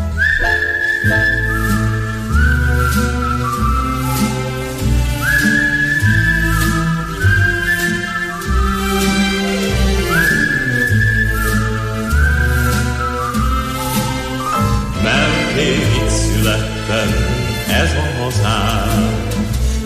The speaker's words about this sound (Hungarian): Ha nem tudok aludni éjjel, és nem jön az álom felé, veszem a halakot, a kaput becsukom, s fütyülve indulok én.